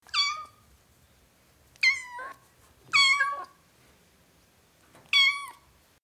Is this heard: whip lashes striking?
no